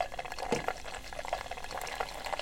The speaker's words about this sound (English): Let me try a little pour now while we're waiting for other people.